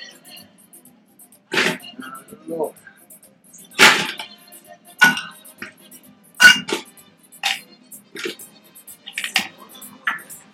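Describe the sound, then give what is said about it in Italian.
Ice cubes drop into a glass one after another, a series of sharp clinks and rattles spaced irregularly over several seconds, with quiet pauses between them. “E poi il ghiaccio.”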